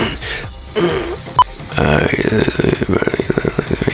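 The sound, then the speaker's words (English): A voice imitates snoring with a guttural, rasping drawn-out breath, then a rapid fluttering rattle that pulses steadily for a couple of seconds, fairly loud, with no other talk. “You need more snoring?”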